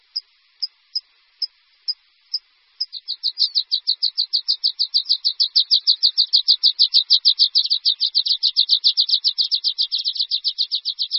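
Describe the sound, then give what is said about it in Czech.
A water pipit sings alone, starting with a few spaced, high notes that quickly speed up into a long, fast, ringing trill, clear. “Linduška horská hnízdí od konce dubna, jakmile se za jarních slunečních dní objeví na jižních svazích první holá místa bez sněhu.”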